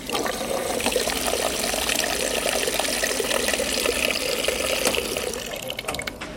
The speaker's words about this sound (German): stehen diese Getränkeautomaten mit drei verschiedenen Fußschaltern. Wasser, Sprudelwasser und kaltes Wasser.